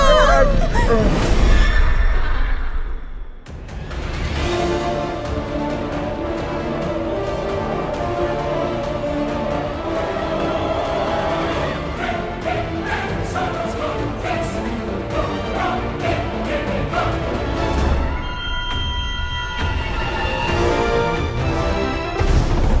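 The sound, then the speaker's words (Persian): A loud, dense rush of galloping hooves and horse whinnies, the cursed sound of the 1886 Goodluck bridle, plays almost nonstop, with clattering beats and neighing over a busy, noisy background. It drops briefly near the start, then surges again. “نفرینش اینه که صداش مثل سوارکاریه و بوی گندی میده.”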